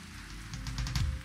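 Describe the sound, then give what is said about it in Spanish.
A crowd in a hall applauding for themselves and for the King of Kings, a dense crackling patter of many hands clapping that swells slightly partway through. It's fairly soft overall, with no voices on top. “Vamos a aplaudir fuertemente, un aplauso para ustedes mismos y para el Rey de Reyes más fuerte aún.”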